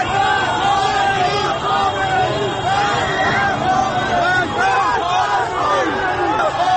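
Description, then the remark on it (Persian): A large crowd of Ashura day mourners, among them protesters against the '88 election results, on Azadi Street at Jeyhun, lined by riot police, suddenly shouts and moves toward the main street: a dense, loud roar of overlapping voices that holds steady for the full seven seconds without pause. “جمعیت ناگهان صدای فریادش بلند می شود و به سمت خیابان اصلی حرکت می کند.”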